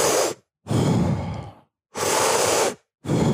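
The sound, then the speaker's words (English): Loud breathing in a quick rhythm: forceful deep breaths in and out during a deep-breathing exercise of repeated deep inhales, each a rushing airy burst separated by brief silences, with no talking. “the Wim Hof breathing is 40 deep inhales”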